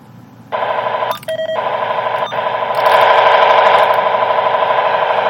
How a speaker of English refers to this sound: This is a unit, I think it's a unit in Bearcat, by the sounds of, like, the beeps and whatnot. I don't know. However, this scanner, I've been messing with it, and all we've been getting is static. Like, I'll show you. I powered the scanner on.